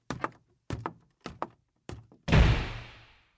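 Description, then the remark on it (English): Four quick pairs of heavy thuds, like hurried steps up a small staircase, lead into a loud slam as a 16-year-old boy violently slams his bedroom door; it booms and rings out for about a second. No voices. “Glared back at his father before stumbling up the small staircase and turning into his room where he slammed the door violently.”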